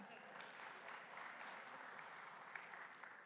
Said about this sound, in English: Yeah, you can clap.